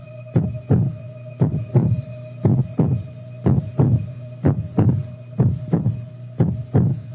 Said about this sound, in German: Du bist ganz klein. Ganz klein und du hörst ihren Herzschlag. Es ist der Herzschlag deiner Mutter.